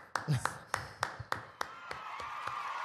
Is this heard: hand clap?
yes